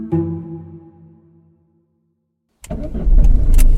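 A humming tone fades into a moment of silence, then a car engine turns over and keeps running with a loud, rough rumble to the end.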